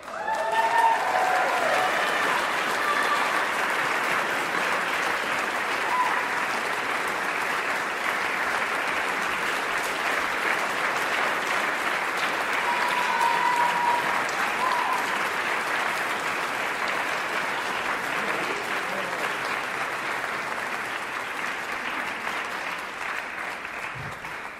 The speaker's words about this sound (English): And then just stay up here while we read off everybody, and we'll applaud for everyone at the end.